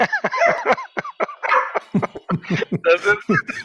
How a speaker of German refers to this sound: Ja, das ist Fox, mein Hund hier, der neben mir... Aus, Foxy, aus! Platz. So, jetzt hat er mich gerade an der Tür geklingelt und das ist unser kleiner Agenturwachhund hier.